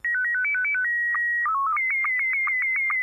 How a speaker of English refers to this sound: My ham radio brethren have likely heard of slow scan TV.